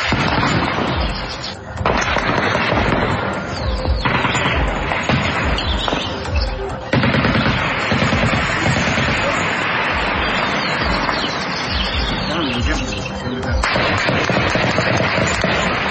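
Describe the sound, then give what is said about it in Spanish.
Rapid bursts of rifle gunfire crack loudly, shots overlapping in dense volleys with brief pauses, over a constant noisy background with some voices faintly mixed in; an armed group firing on an army unit in a rural area of Caldono, Cauca department. “Según reportes, la unidad militar fue sorprendida por disparos provenientes de fusil”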